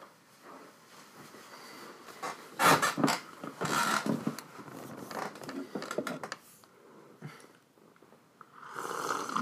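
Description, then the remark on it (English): A loud, wet slurp of a hot drink: a few noisy, airy sucking bursts, strongest in the middle, then softer rustling and another long slurp at the end, with no talking. “That was a dirty slurp.”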